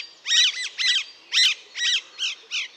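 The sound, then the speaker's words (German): Harsh, grating rose-ringed parakeet screeches ring out in a rapid series of about seven loud calls, evenly spaced, with no talking. “Und dann gerne unter großem Geschrei weiter.”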